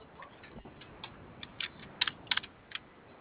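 Quiet, irregular clicking of keyboard keys being pressed while someone checks whether the keyboard is switched on, a scattered run of light taps that bunches into a quicker flurry toward the end, with no voices.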